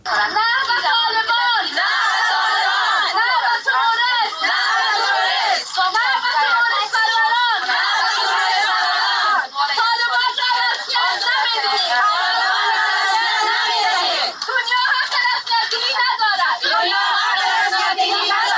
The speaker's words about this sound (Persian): صدای اعتراض زنان افغان است که در اسلام آباد پایتخت پاکستان بلند کردند. آنان هدفشان از این گرده همایی را اعتراض به یک سال حاکمیت طالبان در افغانستان و نقض حقوق مردم این کشور به ویژه حقوق زنان و دختران افغان می دانند.